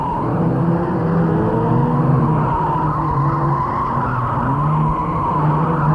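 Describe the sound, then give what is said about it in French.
A car skids out of control as its wheels lose balance and the driver cannot brake, its tires squealing in a sustained, wavering screech over a steady engine roar, loud throughout with no talking. “La voiture perd de plus en plus de l'équilibre.”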